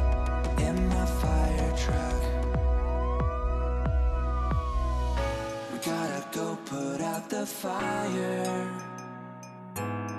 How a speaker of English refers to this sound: Don't forget to sound the siren. It goes wee wee oo wee wee oo wee wee oo wee wee oo wee wee oo wee wee oo wee wee oo goes the fire truck.